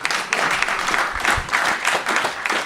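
A burst of applause from a group for a new referee about to debut at de Krom, dense overlapping claps forming a steady, fairly loud wash of sound with no talking.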